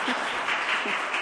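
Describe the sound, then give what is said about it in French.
A group of children applauds classmates who read a proverb aloud, a dense, steady patter of many hands clapping together at moderate volume throughout the short moment, with a faint voice briefly audible underneath. “Bravo, on les applaudit, hein.”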